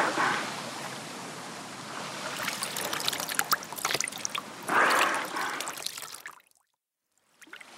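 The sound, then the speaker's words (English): Water is poured and splashes onto a dolphin near the beach in a steady rush for about six seconds, swelling in a few louder gushes before cutting off into silence. “you must pour water on the dolphin.”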